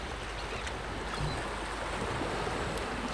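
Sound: sea waves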